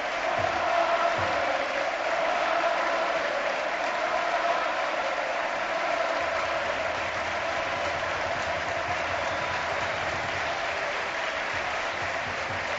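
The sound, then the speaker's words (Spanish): A large stadium crowd gives a sustained ovation for Levante captain Morales, thousands of hands clapping in a dense, steady roar with scattered cheers, holding at an even level from start to finish without any speech. “Bueno, la ovación para el futbolista del Levante, el capitán, el jugador más importante sobre el terreno de juego, como es Morales, que ahora devuelve esos aplausos ya en la zona de banquillos.”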